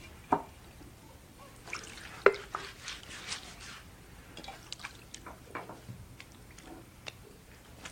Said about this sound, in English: Then he poured some water into a wash basin and began to wash the disciples' feet and dry them with the towel around his waist.